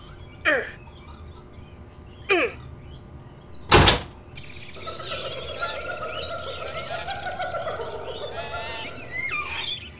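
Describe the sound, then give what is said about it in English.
A stuck door, blocked up by ivy, is shoved and rattled in three sharp bursts, the last a loud bang, followed by a long stretch of high, squeaky creaking and straining. “Why won't this door open?”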